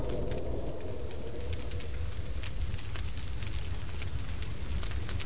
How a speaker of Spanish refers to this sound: Minutos después, los hombres descansaban alrededor de una nueva fogata. La hoguera aumentaba bajo el aire de la madrugada.